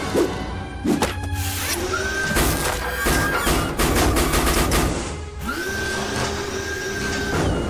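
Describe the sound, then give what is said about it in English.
An art analyzer machine grinds and smashes an art object into tiny bits in a loud, rapid clatter of crunching impacts, while a steady motor whine rises and holds underneath, then repeats after a brief dip. “The machine works by smashing the art object into tiny bits and then measuring, weighing, and analyzing the pieces.”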